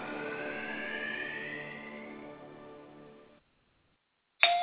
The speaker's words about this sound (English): Saturday morning, the doorbell rings, and like many Americans, I answer it.